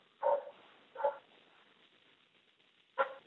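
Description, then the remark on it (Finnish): A dog barks three times, with a short pause between the first two and a longer gap before the last, sharp, with no talking. “Muutuiko sä koiraksi?”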